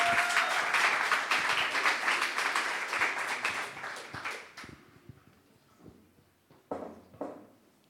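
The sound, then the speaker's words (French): A crowd applauds steadily for several seconds, welcoming a speaker. The dense clapping thins out and fades, leaving a few scattered claps and faint rustling at the end. “On peut l'applaudir.”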